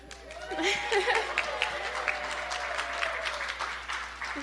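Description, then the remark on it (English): A room full of people claps steadily for several seconds for a student bell ringer, a dense, moderately loud patter of many hands with faint voices murmuring and calling out underneath. “They're clapping for you”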